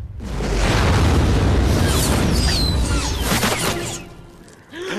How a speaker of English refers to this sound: The explosion sends flames up as high as the umbrella and burns holes in it.